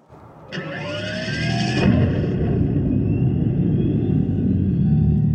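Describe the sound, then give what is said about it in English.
A synthetic electric car startup tone played through the car's outside speaker: a sudden bright onset with rising electronic sweeps, swelling into a loud, sustained low rumble that holds steady to the end, with no voices. “Here goes the startup. And I forgot I turned the EV sound off”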